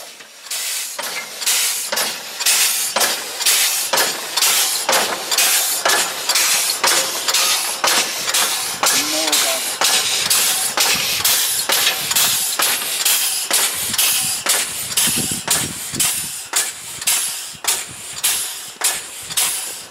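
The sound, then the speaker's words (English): The steam locomotive Tornado hisses loudly and continuously, its broad airy roar pulsing in a steady, quick rhythm of chuffs throughout, with no voices. “And we'll just listen to the happy hissing noise one more time.”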